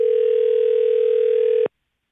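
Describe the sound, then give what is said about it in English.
A steady, unbroken telephone dial tone after a call is hung up hums at moderate volume for about a second and a half, then cuts off abruptly into silence. No voices are present. “We already got one hang up from.”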